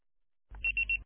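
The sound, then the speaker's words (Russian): A voicemail beep after a busy-subscriber answering message sounds as three quick, high-pitched tones in a row over a low telephone-line hum, clear, with no one speaking. “Пожалуйста, попробуйте перезвонить позже или оставьте свое сообщение после звукового сигнала.”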